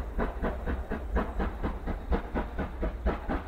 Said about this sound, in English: It was 1975 when the American Freedom Train left the station. Some of you remember, it was a restored engine from the age of steam, pulling 28 cars through all 48 states, contiguous states, town by town